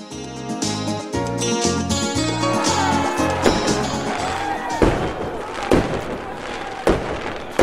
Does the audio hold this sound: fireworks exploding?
yes